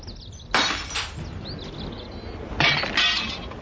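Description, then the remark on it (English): Dishes smash and shatter in two loud bursts, the first crash followed by scattered clinking debris, then a second pair of sharp breaks near the end; no one speaks. “I better get in there before we run out of dishes.”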